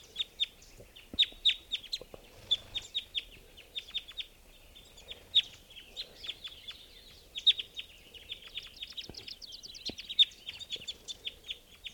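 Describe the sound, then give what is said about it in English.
A bird caught in a net, as birds from a flock are being netted, captured and put in cages, calls over and over, with sharp, high chirps in quick irregular bursts and a few low clucks underneath. No one speaks. “Here's another bird.”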